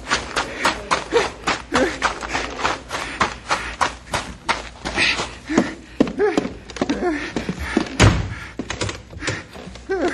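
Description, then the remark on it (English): The front door of a bank slams shut with a heavy thud, surrounded by a busy run of knocks, thumps and shuffling footsteps. “There's the bear. Locked in the bank.”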